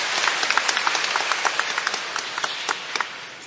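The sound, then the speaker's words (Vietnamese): An audience applauds steadily to welcome a woman coming up to share her testimony, many hands clapping in a dense, continuous wash with a few sharper claps standing out, sustained for the whole few seconds without any talking. “Chúng ta trong một tràng pháo tay để gặp gỡ người chị em này.”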